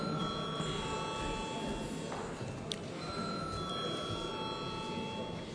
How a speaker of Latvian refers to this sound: Paldies, lūdzu zvanu.